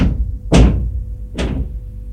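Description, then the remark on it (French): Two heavy thuds of a fist pounding on a door, spaced almost a second apart, each loud with a dull, booming low end that lingers briefly before the next blow. “Il tape encore une fois à la porte.”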